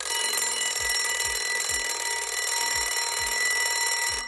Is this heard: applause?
no